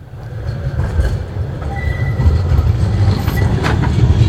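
A tram rumbles past at the stop by the Pfeifferbrücke, on the line from the city centre up to Gerresheim, a steady heavy low roar of rolling wheels and motor with faint metallic squeals and clicks, growing slightly louder toward the end, with no voices.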